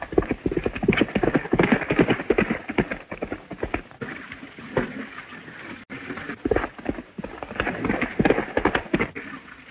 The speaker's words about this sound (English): Above, Zanti drives his horse in a fury.